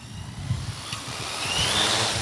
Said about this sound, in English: The quadcopter zips 300 feet into the air, directly above our heads, pauses for a moment, and then begins to move. Now it's just turned to the east, and it's going to start doing its lawnmower pattern.